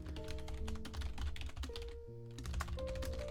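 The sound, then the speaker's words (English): Steady, fast typing on a soft, quiet non-mechanical computer keyboard as quiz questions are typed in manually, a continuous patter of key taps over a low background hum, with no one talking. “And I'm just going to go ahead and type these questions in. And I type these manually.”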